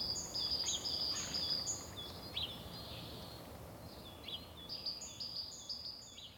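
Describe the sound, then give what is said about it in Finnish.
Birds sing outdoors in quick, high chirping phrases that come in two bursts, set over a steady low rush of wind. No one speaks. “Olen läsnä. Kiitos linnut. Kiitos tuuli.”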